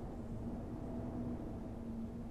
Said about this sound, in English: Listen. You can hear the wind.